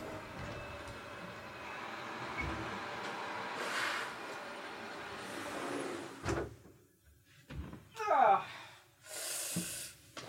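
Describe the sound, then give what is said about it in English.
A garbage truck rumbles steadily outside, its heavy engine droning with mechanical whine, then sharp hissing bursts of air and clanking near the end, heard through a window. “Hi, garbage truck. Oh wow. I'm gonna close my window.”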